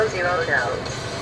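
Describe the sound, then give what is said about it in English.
A steady low engine rumble from inside a moving truck cab, driving back into Eugene on the final stretch, runs continuously beneath a person talking, the drone holding level throughout the brief moment. “That's why I'm recording it in the truck now.”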